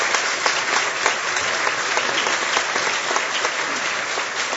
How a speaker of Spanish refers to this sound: Pues él está con nosotros y queremos darle una bienvenida. Vamos a darle un buen aplauso.